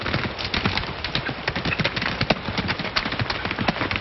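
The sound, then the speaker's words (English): Horses ridden off by two riders, who took them from where they were tied under a rope, give a busy, overlapping clip-clop of hooves, steady sharp knocks running for several seconds at an even loudness with no voices. “He and Lightning stand and watch them both ride off.”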